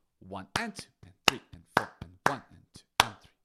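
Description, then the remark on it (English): Sharp, crisp hand claps land on a steady, even beat, about two per second, clapping every count of 1, 2, 3, 4 while accenting some to play a rhythm called figure four, with a voice sounding softly between them. “So I'm still clapping every single one, but I'm actually playing figure four.”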